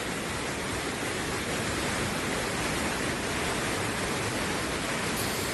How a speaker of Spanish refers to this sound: Mientras tanto, en Logroño, así como vas a escuchar, baja el río Ebro.